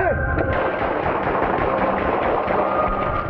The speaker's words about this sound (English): Wind 236, hold traffic, shots fired. 8500 East 41st Street, extended stay.